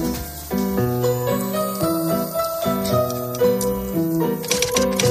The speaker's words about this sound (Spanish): Y con esa máquina de escribir, que lo haces muy bien.